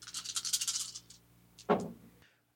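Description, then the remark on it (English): Rattle of dice shaken in a hand for about a second, followed by a single sharp clatter as they drop onto a hard surface and settle. No one speaks. “Give me all my dice.”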